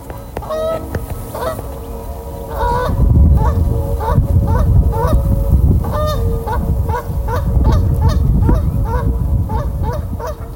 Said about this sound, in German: Ja, hier haben wir gerade den sehr markanten Ruf oder das Tröten der Kanadagans gehört. Das Ganze habe ich aufgenommen in der Ruhraue in Mülheim-Saan, die übrigens auch ein Naturschutzgebiet ist.